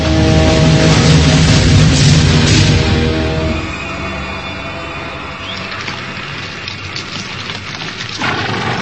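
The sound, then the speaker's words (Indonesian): A horse being brought to a halt lets out a loud, drawn-out whinny lasting a few seconds, then settles into quieter snorting and shuffling, with no one speaking. “Hei, hentikan kuda kita.”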